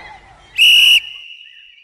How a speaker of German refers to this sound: Da erhob sich die Königin und trat ebenfalls ans Fenster. In der Hand hielt sie eine kleine silberne Pfeife.